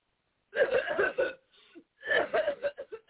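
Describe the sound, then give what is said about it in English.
A person coughs repeatedly and harshly, two long rough fits separated by a pause, ending in a few short, sharp coughs. “Cough again. It ain't all gone.”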